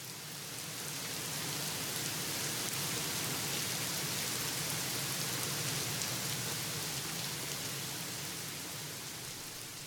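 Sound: monsoon rain falling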